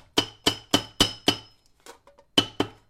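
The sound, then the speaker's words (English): Sharp hammer blows ring out against metal as metal parts are hammered into place in a taxidermy piece: five quick, evenly spaced strikes, a short pause with faint clinks, then two more hits, each with a bright metallic ring. “So to get my metal pieces in there, I had to cut some of the skin off of the taxidermy, cut out some of the support structure underneath it, and do a lot of hammering to get the metal parts to sit in there.”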